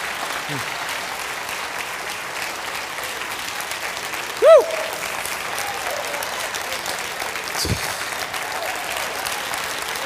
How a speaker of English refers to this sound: That's all we got for you. Give the Lord a hand. Clap, praise God.